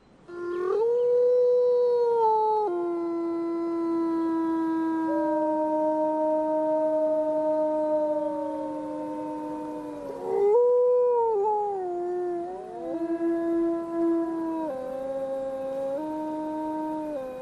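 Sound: wolves howling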